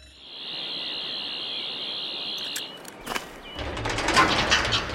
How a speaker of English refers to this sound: What is that noise? Perimeter alarm. Someone's trying to break in through the jolly old gate.